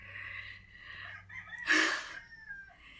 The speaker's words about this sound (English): God damn it, rooster.